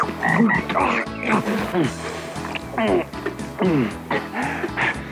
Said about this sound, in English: Ooh, look at that frog!